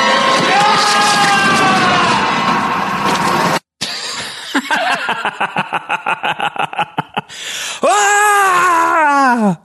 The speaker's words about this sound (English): Do you think they just took his scream from last episode and added reverb onto it?